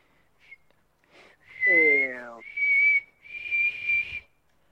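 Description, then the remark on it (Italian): Someone whistles in several short, sustained bursts, the pitch wavering slightly up and down, with a brief sliding vocal sound mixed in partway through. “Però ci sta che ci sia bisogno di più scioglievolezza su sto pomo, fischiando.”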